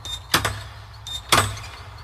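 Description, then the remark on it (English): Two quick pairs of sharp knocks on a door, separated by a short pause against a low background hum, with no voices. “Better open the door, Mr. Count.”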